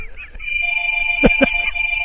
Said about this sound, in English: Whose phone's ringing? Not mine. Not mine. Hey, answer your phone, dude.